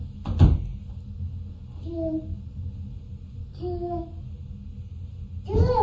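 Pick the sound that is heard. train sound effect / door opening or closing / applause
door opening or closing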